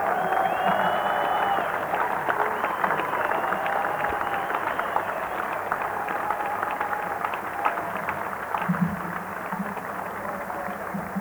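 A crowd applauds steadily for a performer, with dense clapping and scattered cheers running for the whole stretch at a consistent, fairly loud level with no pause.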